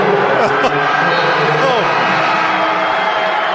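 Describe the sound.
A basketball arena crowd at a Memphis Central game roars in reaction to a foul call, a dense, loud wash of many shouting voices that holds steady throughout, with a couple of sharp yells breaking through early on.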